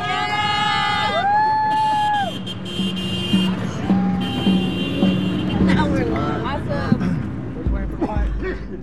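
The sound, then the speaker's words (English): A small convoy of support cars honks in sustained and short bursts, overlapping with people yelling and cheering encouragement amid steady traffic noise, at the end of the day with the sun low, near Mount Diablo in California. “The sun low, a small convoy of support cars encourages us with honking and yelling as we finish out the day.”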